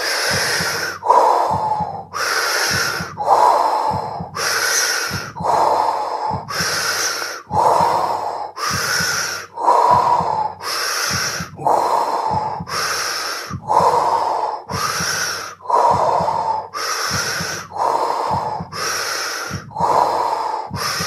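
Steady, rhythmic deep breathing in a guided breathing exercise, forceful inhales and exhales repeating about every second and a half, with no talking.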